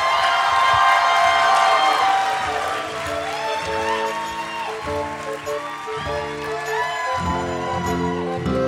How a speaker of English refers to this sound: Did you hear all that applause and laughter? A big thanks to our post-production department for making that sound so realistic.